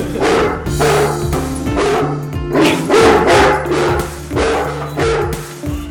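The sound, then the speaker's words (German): A startled dog in a meadow barks loudly and repeatedly in quick bursts, close by, with a few higher yips mixed in over a steady low hum of background noise. “Der erschrickt und auf der Stelle, macht er lauthals ein Gebelle.”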